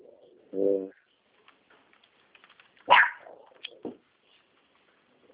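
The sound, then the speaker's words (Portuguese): A small female pet dog lets out a few sharp, separated yaps, a tonal one first and then higher, brighter barks, with no talking. “Tem um doguinho latindo aqui.”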